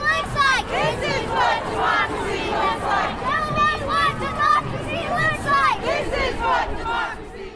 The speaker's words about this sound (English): Some of those chants were led by the youngest activists in the crowd.